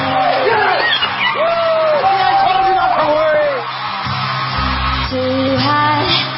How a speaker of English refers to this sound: I find difficult in these shows with all these screaming fans. They don't even know who these people are. All these screaming fans.